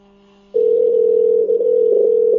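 A steady electronic ringback tone on an outgoing phone call starts after a brief quiet moment and holds as one continuous, fairly loud burst, with no voices.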